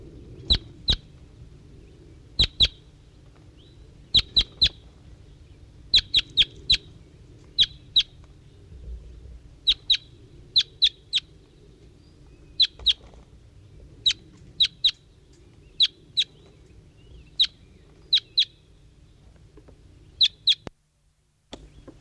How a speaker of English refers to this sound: Recording here is 5-3 again. Responding, I think, to a wild bird in the distance.